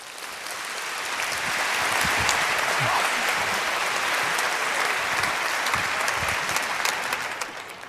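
A crowd applauds steadily for several seconds, a dense wash of many hands clapping that swells at the start and tapers slightly at the end, with no voices on top.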